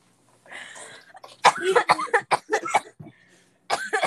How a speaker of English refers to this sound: Dying of laughter and choking on her own hair or saliva. No, I'm coughing because when I get hard, I cough.